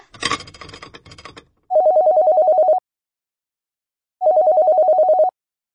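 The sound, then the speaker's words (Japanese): A telephone rings in two bursts of rapid trilling bell tones, each about a second long with a pause between, preceded by a brief clatter of handling or rustling noise. “あら、電話や。”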